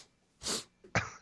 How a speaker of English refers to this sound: Oh, I hate it. Because... I'll sneeze and I won't stop. Like, we've got to call off the show for like 5 minutes now because I'm going to keep on sneezing.